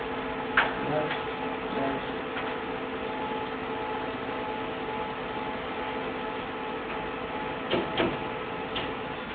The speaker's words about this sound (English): Let's test. Test page successfully sent to printer. The light is flashing. The printer comes on.